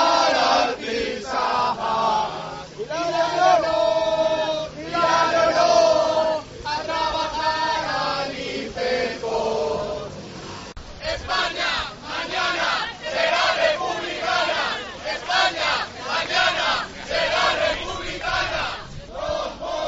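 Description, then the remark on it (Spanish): An angry crowd protests at the main entrance of the Complejo Cultural San Francisco, many voices shouting and chanting together in loud, rhythmic bursts that rise and fall continuously, with no single speaker standing out. “Y la gente, la verdad, que se ha llevado un chasco. Vamos a escuchar un poquito de ese sonido ambiente.”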